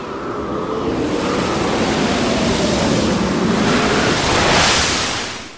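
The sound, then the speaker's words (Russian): Loud, continuous rush of sea waves surging, a broad roaring wash that swells to a peak near the end before easing off, with no voices. “Вынесла последняя волна девятиглавого дракона на золотой мост.”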